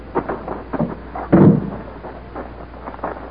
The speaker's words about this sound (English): All right, Cadet. I know you're anxious to see it. I'll open the hangar door.